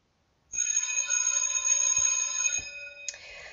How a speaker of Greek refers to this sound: Ωχ, το κουδούνι. Λοιπόν, ώρα για διάλειμμα. Καλό διάλειμμα, παιδιά.